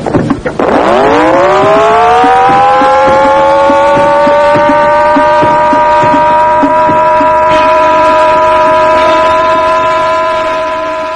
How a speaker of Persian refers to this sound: توجه توجه، علامتی که همکنی میشنوید اعلام خطر یا وضعیت قرمز است و معنی و مفهوم آن این است که حمله هوایی انجام خواهد شد. محل کار خود را ترک و به پناهگاه بروید.